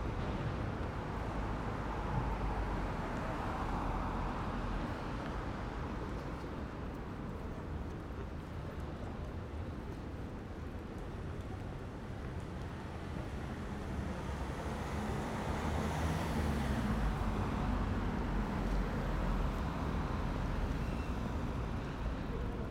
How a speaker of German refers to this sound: Wenn ich angekommen bin, beim Zebrastreifen rechts von mir, warte ich, bis die Autos stehen bleiben und gehe hinüber auf die andere Straßenseite.